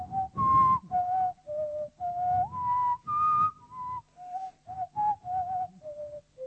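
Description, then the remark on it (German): Birdsong played back slowed down: a melodic run of about a dozen mid-pitched, whistle-like tones, some rising or gliding, with a breathy low rumble beneath and no talking. “aufgenommen und dann so langsam abgespielt. So, also wenn ich jetzt unsere Stimme wäre, aber Vögel, wenn man die langsam, dann klingt es plötzlich dieses hohe.”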